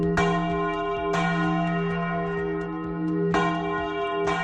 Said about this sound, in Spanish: Es el sonido de las campanas que van a tocar en 9 iglesias con motivo del comienzo de la Semana de la Arquitectura. Será cada media hora, comenzando a las 9 en la Iglesia de Santiago y terminando a las 2 menos cuarto en la de San Antón.